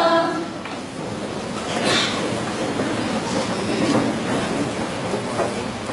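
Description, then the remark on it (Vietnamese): A train rumbles steadily along the tracks toward the coast for several seconds, a dense continuous roar with faint rhythmic clacking and a brief metallic squeal partway through. “Cho tàu chạy về ven biển.”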